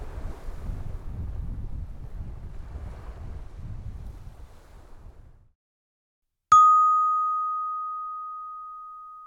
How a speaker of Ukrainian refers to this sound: Це море шепоче. Воно вас кличе.